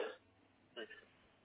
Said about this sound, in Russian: Да, кот чихает или кашляет, не слушайте меня.